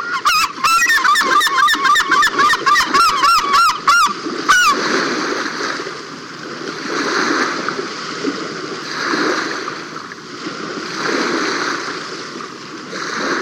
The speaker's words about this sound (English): this herring gull ducked, tossed water on its back, and then worked its wings and tail like a hand pump, forcing the water through his feathers.